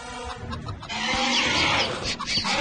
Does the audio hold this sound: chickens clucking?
yes